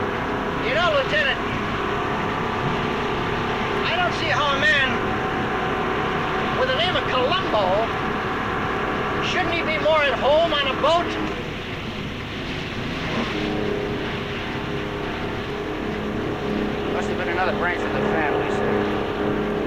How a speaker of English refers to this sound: The boat bobs up and down on the tide as it speeds along.